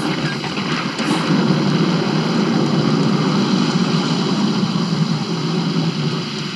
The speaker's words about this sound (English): I wonder how many times that thunder sound effect has been used in movies. That thunder is actually dead. That's what's scary. Like... That thunder you're hearing? It died out years ago.